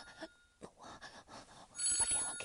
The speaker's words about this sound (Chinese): 我电话响了。我，等一下，真是我电话，我电话就这个声音呢，快！